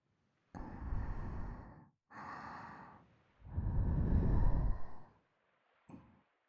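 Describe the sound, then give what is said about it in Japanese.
Close, breathy exhalations right against the ear: three long, soft sighing breaths with short pauses between, then a brief faint puff at the end. No talking. “耳に吐息かかるたびに腰が揺れて胸突き出して”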